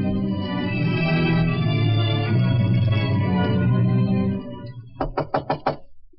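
A sustained swell of music fades out, then five quick, firm knocks on a door ring out close by in an even, rapid rhythm.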